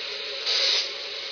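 A steady hiss of escaping steam from a steam locomotive venting swells louder for a moment midway through before settling back to a constant rush. No voices.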